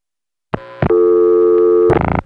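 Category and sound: signal or alarm, telephone call being dialed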